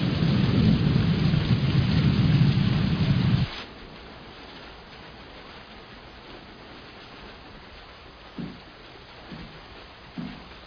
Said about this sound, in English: It's raining out.